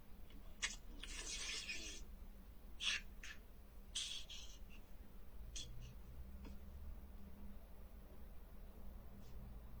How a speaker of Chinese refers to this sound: 龙猫打喷嚏。 龙猫打喷嚏。